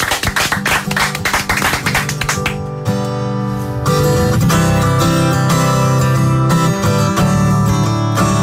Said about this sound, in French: Applaudissements pour notre ami